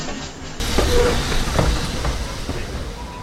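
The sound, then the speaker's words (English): The midnight train rolls into a station with a sudden swell of rushing, hissing noise, steady and fairly loud, dotted with a few metallic clanks and squeals as it pulls in. “The midnight train was coming!”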